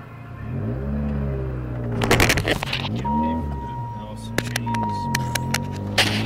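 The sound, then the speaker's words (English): A powerful car engine, parked in front of a KFC, rumbles steadily, its low tone rising and falling as it revs, with bursts of clattering, jingling metallic noise and a faint steady whine over it. “So you're about to hear a little bit of noise. It's a pretty powerful car.”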